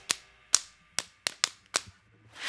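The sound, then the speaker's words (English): Six sharp, crisp slaps of hands on knees in a loose, slightly uneven rhythm, each a bright smacking hit that decays quickly, with no voices, followed by a soft rising hiss. “If you know that Jesus loves you, slap your knees.”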